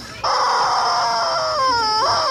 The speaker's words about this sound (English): Screaming squeeze toy. Okay. Here it is. Okay, this has got to be it. Yeah, it's like a turkey or a chicken. Here's a bunch of them. Looks like they're geese or chicken.